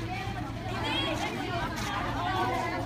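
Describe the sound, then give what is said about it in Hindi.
A dense, continuous hubbub of many overlapping voices from an aggressive crowd, fairly loud, with raised, agitated tones rising and falling throughout and a steady low hum underneath, where a police detachment is deployed. “आक्रामक रुख अख्तियार करती भीड़ को देख पुलिस की वहां तैनात टुकड़ी हमें वहां से जाने को कहती है।”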